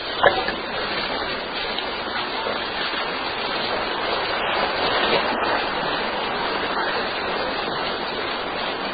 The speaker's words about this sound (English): It's good to hear that rain, isn't it? 听到这个雨的声音很好，是不是？